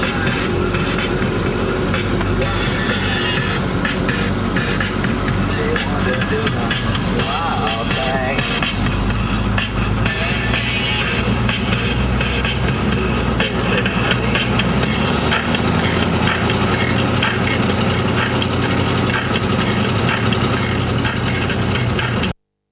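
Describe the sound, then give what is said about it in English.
Loud, unbroken engine roar from inside an American Army Humvee on patrol in Baghdad, with heavy low rumble, constant road rattle and scattered metallic clanks, the tone shifting lower near the end. “Two short recordings from inside an American Army Humvee in Baghdad on patrol.”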